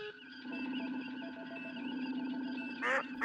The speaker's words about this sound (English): Seems pretty complete. Individual device for each sound. Took me 2 years. I don't remember the quack. Damn. Stands out. Device has a glitch in it. Intermittent. Can't specify.